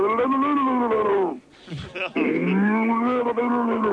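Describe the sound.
A man calling in on a phone line imitates a cow drowning: long, strained moos with a warbling, gurgling edge, broken by a brief gasping pause before a second drawn-out bellow.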